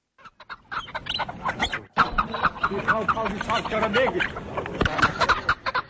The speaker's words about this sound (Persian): قبل از نوشتن گزارش خود راجع به تدابیر دولت در راه حفظ پرنده ها در تاجیکستان از بازار پرنده های پایتخت دیدن کرد و حالا قصه پرنده ها را میشنویم.